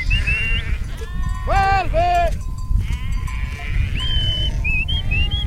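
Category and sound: animal, sheep bleating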